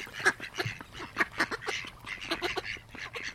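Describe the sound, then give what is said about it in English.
Several mallard ducks, one of them a female with a lump between its eyes, quack in a busy, overlapping chorus, short raspy calls tumbling over one another with no pauses for the whole stretch. “There's one female mallard there with a lump on its, in between its eyes.”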